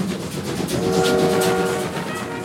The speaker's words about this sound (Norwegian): Den unge og fremadstormende legen Carl Gustav Jung sitter muligens på toget fra Zürich på vei til Wien. Vi er i starten av 1900-tallet, og Orientekspressen går hver eneste dag mellom de europeiske storbyene.